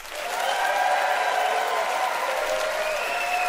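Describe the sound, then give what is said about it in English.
An audience in Kamloops bursts into sustained, dense applause to pick a contest winner for ski and snowboard sentences, holding steady and loud for several seconds, with some cheering tones riding over the clapping. “It is up to you to pick a winner by applause.”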